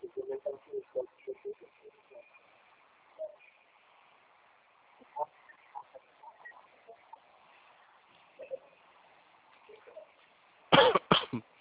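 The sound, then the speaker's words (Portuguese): A sudden, loud cough from a person with a slight cough bursts out at the very end, following a stretch of quiet background filled with faint, low murmuring sounds. “Ai, desculpa, viu? Tô com uma tossinha.”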